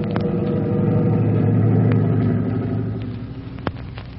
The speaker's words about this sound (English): As the Forest Service patrol plane drops down toward Chief Cody, he realizes in the flash that here is his chance to get to the scene of the fire